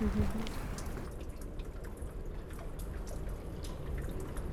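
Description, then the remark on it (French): Water drops patter irregularly against a steady, low watery wash, with scattered soft plinks spread across the whole stretch at a fairly quiet, even level. “J'entends le bruit des gouttes là.”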